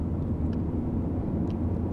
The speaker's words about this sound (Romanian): Mașina zboară pe șosea.